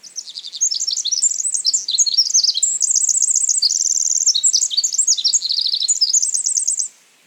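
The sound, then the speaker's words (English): A Pacific wren (Troglodytes pacificus), a tiny bird of western North America, sings a long, rapid, high-pitched song of tumbling trills and twittering notes, continuous for about six seconds before stopping abruptly, with no other sounds. “Over here in western North America, we have a similar tiny bird called the Pacific wren, Troglodytes pacificus. It has an incredibly complex, high-speed song.”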